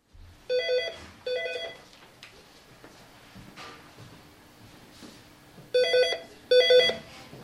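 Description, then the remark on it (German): An electronic office phone rings in two pairs of short warbling bursts, the first pair near the start and the second near the end, with a quiet room murmur and faint clatter between. It is in the building department offices of Bern's Inselspital, the office where architect Claudio Canale normally telephones. “In diesem Büro telefoniert normalerweise der Claudio Canale.”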